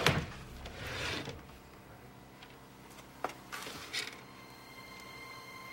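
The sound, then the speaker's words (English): A drawer slides open with a rough, rumbling scrape lasting about a second, followed by a couple of sharp wooden knocks and clicks. “I was absolutely totally furious that my jewelry was in Jamie's drawer”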